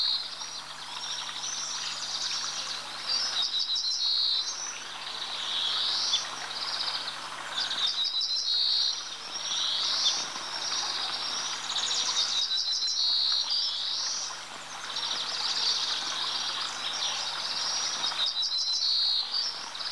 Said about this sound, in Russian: Песня садовой овсянки похожа на песню обыкновенной, только чуть грубей и короче. Это поет та же самая птица, она только сменила мелодию.